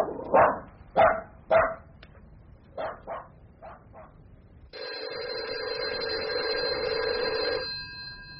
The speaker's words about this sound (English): Ah, who's a good dog? Sit quiet there, Snarlycub, and let me answer the phone.